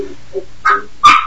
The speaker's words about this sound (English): Hey, your dog's a radio star.